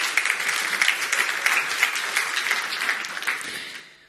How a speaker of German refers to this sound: Ich finde, da können wir auch jetzt schon noch mal einen Applaus für euch geben.